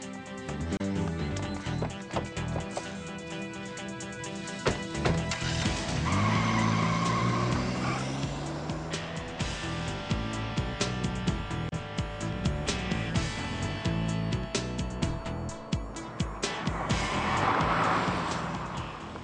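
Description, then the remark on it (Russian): A car revs and pulls away with tires skidding and squealing loudly, the engine roar continuing over a dense, busy background. “Извини, придется ехать на твоей машине.”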